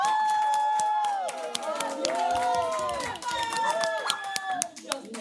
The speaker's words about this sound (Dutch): Mag ik een heel groot applaus voor ….